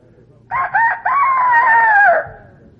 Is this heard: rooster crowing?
yes